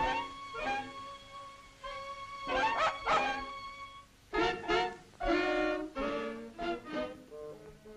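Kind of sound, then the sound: animal, small dog barking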